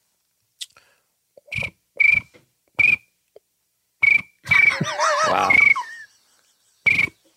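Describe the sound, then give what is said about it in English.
A person mimics a cricket's chirp with their voice: a series of short, shrill chirps spaced about a second apart, fairly loud, with a brief spoken exclamation partway through. “But I think my cricket is the best. Let's hear your cricket.”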